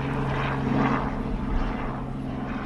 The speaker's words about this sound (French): Et d'ailleurs, pendant qu'on parle de carbone, il y a un hélicoptère qui nous survole.